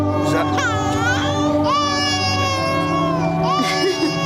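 A child cries loudly and without pause, wailing in long drawn-out sobs whose pitch swoops up and down several times over a few seconds.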